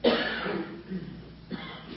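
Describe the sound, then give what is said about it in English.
A sharp cough bursts out at the start, followed by a rough, throaty tail and a smaller second cough a moment later, clear. “a cough can mean a hand raise”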